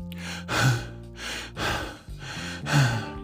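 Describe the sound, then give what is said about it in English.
Heavy breathing over a phone line, with four or five loud, airy breaths in a steady rhythm and a low electrical hum underneath. No one speaks. “I hear you breathing.”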